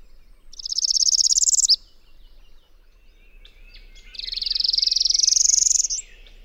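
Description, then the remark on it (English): Two high, buzzy rising trills from a northern parula, a kind of warbler, each lasting over a second with a pause between, the second one longer and climbing to a sharp finish, clear against a quiet background. “second the northern parula, also a kind of warbler,”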